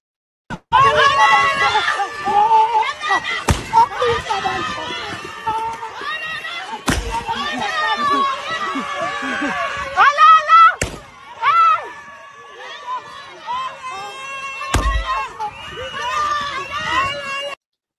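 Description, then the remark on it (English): Four sharp, loud gunshot cracks from what appears to be a real gun ring out a few seconds apart as a woman runs down a street, shouting excitedly and celebrating while firing into the air, with other voices clamoring in the background. “So, in the video, a woman runs down the street shouting and celebrating, firing a gun into the air, and there's a sort of loud crack sound, as I'm sure you heard if you're listening on audio only.”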